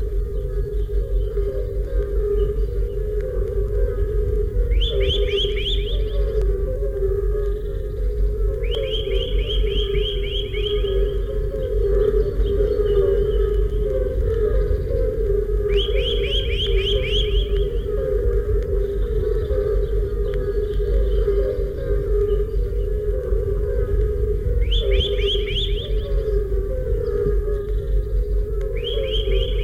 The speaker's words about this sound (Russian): Свист поползня. Эту песню услышишь только весной.